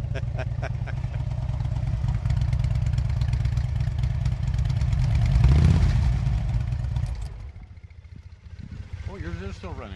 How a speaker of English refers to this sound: Babcock is one of those bikers who put aftermarket pipes on his bike to make it louder and more powerful. Those parts aren't illegal, even if the level of noise they create can be.